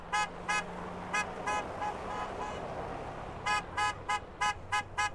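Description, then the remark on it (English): Repeated truck horns honk in short bursts, a few at first, then a rapid cluster of toots near the end, over a steady low rumble of idling engines, as a caravan of trucks arrives on the ice road carrying the body of Joe DeMantle. “A caravan of trucks arrived carrying Joe's body.”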